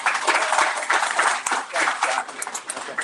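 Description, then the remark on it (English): Audience applause for a supporter from Waterworks Marine, a dense, steady patter of many hands clapping at once, fairly loud, holding for a few seconds without pause. “So please give him a huge round of applause.”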